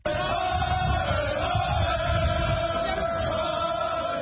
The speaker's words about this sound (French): C'est avec des cris de victoire qu'Ousmane Sonko a été accueilli par une immense foule qui a convergé vers son domicile dès l'annonce de sa libération.